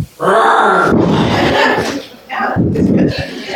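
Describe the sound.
A man gives a loud, drawn-out growling roar imitating a lion, rough and throaty, rising in two strong bursts with a brief dip between them.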